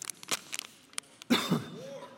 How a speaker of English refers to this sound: Man, I'm getting the coughs. Hold on just a minute. Throw me that water, will you?